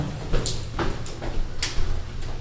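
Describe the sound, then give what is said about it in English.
A door slides open over a low rumble, with several short rattling clicks and knocks spaced out along its track. No one speaks. “There's your door.”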